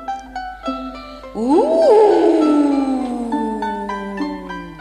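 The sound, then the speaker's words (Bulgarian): A black wolf that has not eaten for three days gives a single long, loud howl beside a stream that rises sharply and then slowly falls and fades over a few seconds. Steady tonal sounds play in the background before and after it. “Зави звярат, който от 3 дни не беше ял.”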